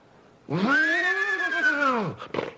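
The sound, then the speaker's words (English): A voice imitates a horse's whinny: one loud, sustained cry that swells upward, holds, then slides down over about a second and a half, ending with a short breathy huff. “So first do just the horse, the whinny.”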